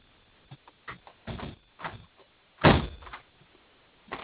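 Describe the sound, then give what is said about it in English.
A door is handled and pulled shut, with a few light clicks and rattles before a louder thud as it closes, then faint knocks. Fairly quiet overall, with no speech. “I got to close the door because I can't hear you.”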